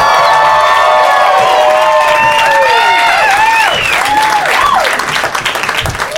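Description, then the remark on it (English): An audience at the Upright Citizens Brigade Theater, during a live Doug Loves Movies show, claps along to a song loudly and steadily, the dense clatter mixed with high cheering, whoops and rising and falling shouts, all continuous over about six seconds. “The clapping is so is so off by the end of the song every time.”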